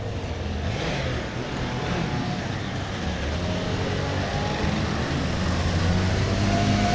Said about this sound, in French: On remonte gentiment sur le quai. Oh là, mais il faut rester sur le trottoir parce que les voitures, elles passent même sur la route là.